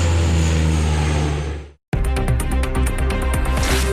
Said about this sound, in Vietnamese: Lực lượng chữa cháy có thể hy vọng vào hai máy bay cứu hỏa đang liên tục lượn đi lượn lại giữa Thái Bình Dương và các đám cháy.